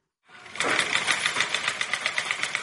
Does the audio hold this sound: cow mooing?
no